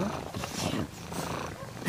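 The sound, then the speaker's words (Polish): A cat purrs, a low, rough, pulsing rumble that runs steadily for about two seconds at moderate loudness. “A tak mruczy”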